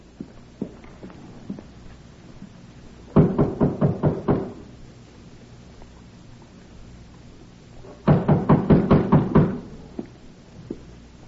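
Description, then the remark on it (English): Two bursts of rapid, firm knocking on a back door, each about half a dozen quick raps, separated by a few seconds of quiet room tone with faint, scattered small thuds. “Back door. Who uses it? Milkmen, delivery boys, lots of people.”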